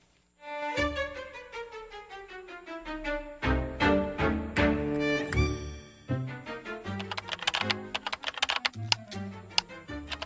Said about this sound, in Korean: 지금 컴퓨터 앞에 앉아 키보드를 미친 듯이 두드리는 이 남자의 이름은 루드비코, 만화가다.